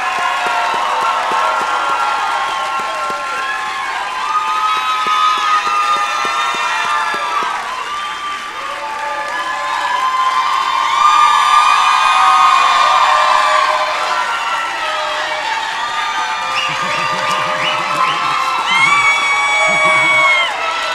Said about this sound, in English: And one final round of applause for our graduates. Congratulations on your accomplishment.